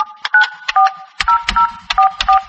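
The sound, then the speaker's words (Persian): A rapid string of short, steady two-pitched telephone tones, about ten beeps in an uneven rhythm, each with a soft click, as the phone number of the Torino company office in Khujand, organizer of a Tajik lottery, is dialed. No one speaks. “در حقیقت رقم تلفن دفتر شرکت تورینو در خوجند برگزار کننده لاتای کلان تاجیکی در پاسخ به زنگ های ما نیز خاموش بود.”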